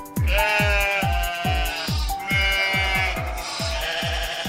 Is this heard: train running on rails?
no